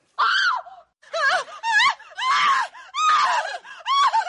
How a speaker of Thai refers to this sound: และด้วยเหตุนี้นักวิจัยจึงบอกว่าโดยสรุปแล้วเสียงหวีดร้องของคนเราไม่ใช่เรื่องของการประกาศหรือการเตือนว่ามีภัยอันตรายมาอยู่ใกล้แต่เป็นการส่งสัญญาณขอความช่วยเหลือว่าผมนั้นกำลังตกอยู่ในอันตราย